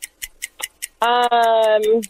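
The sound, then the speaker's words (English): A 45-second game show countdown clock ticks in a quick, steady, crisp rhythm; partway through, a person starts talking over the continuing ticks. “45 seconds on the clock playing for Esquire IMAX tickets.”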